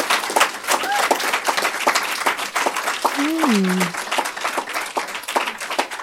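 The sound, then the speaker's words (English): A crowd applauds steadily at a book launch event in New York, with dense, overlapping handclaps throughout, while a voice briefly rises and falls above the clapping partway through. “Let's have a warm round of applause”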